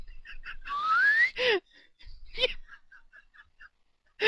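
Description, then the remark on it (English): A person whistles a single quick upward glide, mimicking a slide whistle, fairly loud, followed by short bursts of giggling laughter. “Like a slide whistle went off.”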